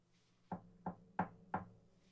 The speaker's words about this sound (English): So, steeling myself, I knocked on the door.